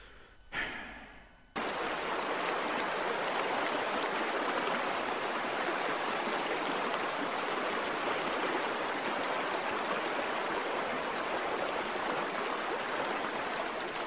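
flowing river water

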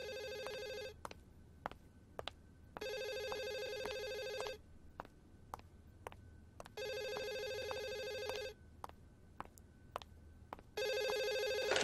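telephone ringing

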